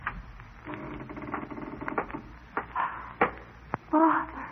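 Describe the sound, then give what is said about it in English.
A series of metallic rattles and sharp clicks, like a key working a lock, followed by a louder creak and thump as the door of a locked upstairs room swings open. “He would be afraid if his door was left unlatched.”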